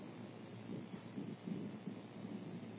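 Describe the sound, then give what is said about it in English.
Steady rain falls in a constant, dense hiss with a low rumbling undertone, holding an even loudness throughout with no voices or breaks. “And now it's raining, so I'll preach till it's done.”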